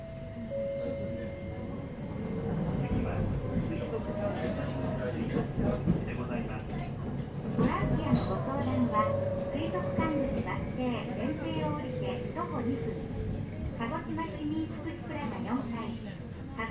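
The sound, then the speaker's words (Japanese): An electric train pulls away and runs along the rails, its motor whine rising steadily over a continuous rumble and clatter of wheels, heard from inside the car. “はい、動きます。”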